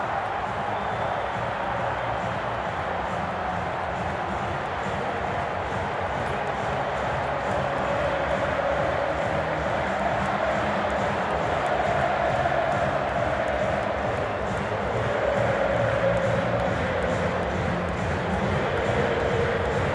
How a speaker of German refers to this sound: Da haben wir die Minuten des Tores nochmal samt Jubel aufgenommen. Also hört hier mal gerne rein.